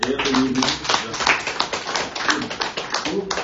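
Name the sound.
applause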